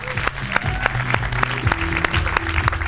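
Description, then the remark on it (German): An audience applauds steadily as a person is called back onto the stage, a dense wash of clapping with sharp individual claps standing out at a fairly regular rhythm, loud throughout, with a low murmur of voices underneath. “noch einmal auf die Bühne mit einem riesen Applaus.”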